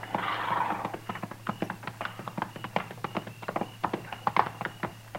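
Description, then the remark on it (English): Hooves of several ridden horses clip-clop steadily on hard ground as riders approach a hunters' camp at nightfall, a quick irregular run of sharp knocks drawing nearer, with a low steady hum underneath and no voices. “We just gonna ride right up to him, Mr. Dillon?”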